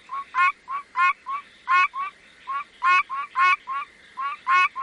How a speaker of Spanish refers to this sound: Les presento ahora, señoras y señores, a la rana arborícola de los pinos.